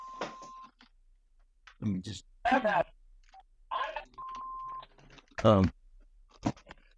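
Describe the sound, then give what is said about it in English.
A mobile phone rings with short, steady electronic beeps, one at the start and another a few seconds later, while a voice speaks in between before the ringing stops. “And this my phone ringing here.”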